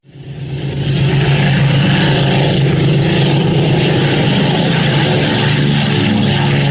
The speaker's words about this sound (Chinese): 在天安门广场上空，由17架飞机组成的编队呈品字队形，以不到1000米的高度飞过来了。其中有4架由于担负着战斗警戒任务，受阅时还挂着实弹。